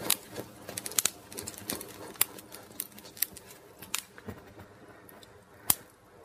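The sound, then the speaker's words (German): A grill fire lit on a Saturday evening crackles steadily, with irregular sharp pops and snaps, some louder than others, over a soft background hiss and no talking. “Ah, knistert das Feuer schön.”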